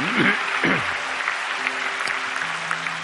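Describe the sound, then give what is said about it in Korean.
An audience at a Sunday noon church service claps steadily for about three seconds to bless and encourage young deacons after their musical performance, a dense, even wash of applause with a few faint voices or tones rising briefly underneath. “자, 우리 늘 이렇게 잘 섬기는 우리 청년들 집사님 우리 박수로 축복하고 격려하겠습니다.”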